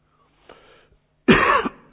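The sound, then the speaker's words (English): A soft throat-clearing rasp is followed by one loud, harsh, forceful cough boomed through a microphone and PA, with no talking. “I hate amplified coughs.”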